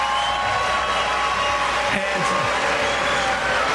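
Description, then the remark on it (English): A large crowd roars steadily and loudly throughout, a dense wash of cheering voices that shifts toward a lower, jeering boo without ever letting up. “And cheers become booze, to which he says.”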